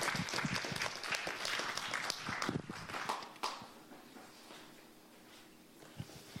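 An audience breaks into steady applause, a dense patter of many hands clapping for about three seconds before it tapers off into a few scattered claps and quiet room noise.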